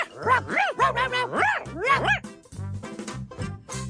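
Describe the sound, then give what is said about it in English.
A voice imitates a dog barking with a quick run of bouncy, rising-and-falling barks, loud, followed by a few shorter yips toward the end. “Boy, Hot Dog, you're a longer doggy than me. I sure am. Ruff, ruff, ruff, ruff.”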